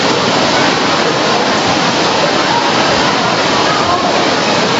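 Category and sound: nature, heavy rain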